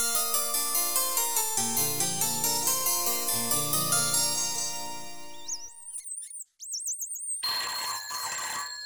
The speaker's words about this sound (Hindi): ओहो, आ रहा हूँ भाई। ये फोन ना हो गया बस जी का जंजाल बन गया है। सारा दिन बस बसता ही रहता है, ट्रेन ट्रेन ट्रेन ट्रेन, और लोगों को तो जैसे बस सिवाय फोन करने के दूसरा काम ही नहीं है। अरे जल्दी उठाइए ना, कट जाएगा।